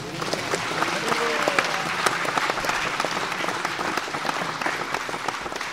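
An audience breaks into a sustained round of applause, dense clapping filling the whole stretch at a steady, fairly loud level with a few sharper individual claps standing out.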